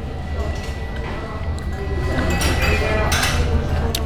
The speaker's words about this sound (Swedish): Nu ska jag ta första tuggan. Jag beställde mer än medium stekt. Jag vill inte ha det blodigt. Okej, vi kör.